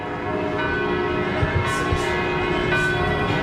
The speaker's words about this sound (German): Die Glocken läuten wieder festlich in Bethlehem